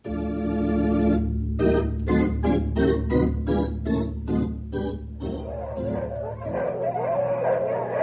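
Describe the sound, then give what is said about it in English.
A pack of sled dogs, the dog teams at Jake Coogan's place, barks and yips in quick, overlapping bursts, loud, with a steady rhythmic run of barks in the middle before the noise turns into a jumbled chorus. “Jake keeps his dogs in top shape.”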